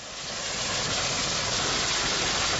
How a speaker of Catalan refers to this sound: Doncs seguim amb el tren a tota velocitat, eh? No és que s'hagi espatllat la ràdio, eh? Seguim amb el tren. La característica d'aquest tren és que és un tren tramvia, ja que passava pel mig de les poblacions.